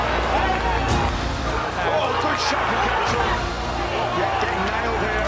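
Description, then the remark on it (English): A boxing arena crowd at the Hydro roars during a boxing match in a dense, steady wall of noise, many voices blending into a loud, unbroken din that holds at the same level for the whole stretch. “The crowd rides here at the Hydro.”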